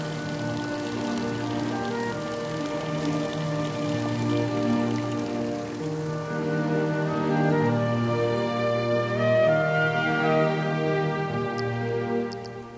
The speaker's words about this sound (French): Ah oui, puis il y a des bulles, bien sûr, qui ressortent. Il y a des bulles un peu partout.